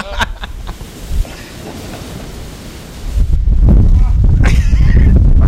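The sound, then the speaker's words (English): Steady, rushing wind-driven noise suddenly swells about halfway through into a loud, dense roar with heavy low rumble as a hail storm of little pieces of ice, blown in across the ocean, sweeps over Iceland, continuing strongly to the end. “Little pieces of ice flying through the air.”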